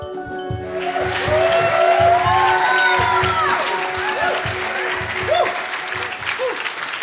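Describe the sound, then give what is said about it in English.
Loud, sustained audience applause at a church gathering, a dense wash of many hands clapping at once, with scattered whoops and cheers rising over it and background voices mixed in throughout. “Again, huge applause.”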